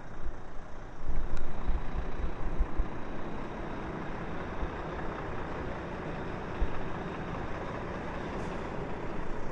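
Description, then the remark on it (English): A huge lorry's heavy diesel engine rumbles steadily, low and loud, as it drives past, holding a fairly even level for the whole stretch with a couple of slight swells and a faint hiss on top. No one speaks. “Sounds like a lorry.”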